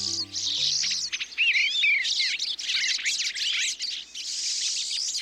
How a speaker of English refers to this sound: The sights and sounds of birds visiting a feeder in the backyard or a local park can brighten our days during the darker months of the year.